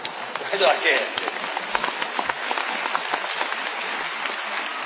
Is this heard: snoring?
no